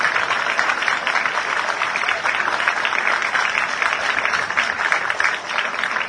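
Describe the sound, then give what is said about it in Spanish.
An audience applauds steadily for about six seconds in a memorial tribute to Dr. Félix Ábreas Artúa, a dense, even wash of many hands clapping at a constant level, with no voices rising above it. “Me estoy refiriendo al doctor Félix Ábreas Artúa, para quien quiero un sentido aplauso recordatorio.”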